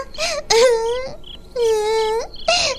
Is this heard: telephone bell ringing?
no